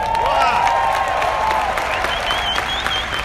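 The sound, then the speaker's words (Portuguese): Sustained audience applause, a dense steady wash of many hands clapping, with some tonal whistle-like sounds and faint crowd noise mixed in. “E um grande aplauso para você que ficou aqui até o final.”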